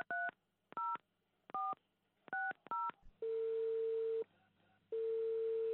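A phone number is dialed to call the police: five short two-tone keypad beeps in an uneven rhythm, followed by long, steady ringback tones with a low hum underneath.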